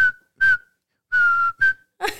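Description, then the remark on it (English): A short whistled tune of four clear notes with brief pauses between them, fairly loud, whistled by a person to call a dog, ending as a breathy sound cuts in. “But I don't know where and what point it turned into like a whistle.”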